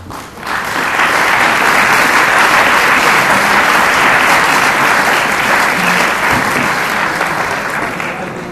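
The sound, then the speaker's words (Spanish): Audience applause for a professor, a dense, steady wash of many hands clapping that swells in quickly and holds at a loud, even level for about eight seconds before easing slightly at the end. “Desde aquí, un aplauso para el profesor Alonso Sierra.”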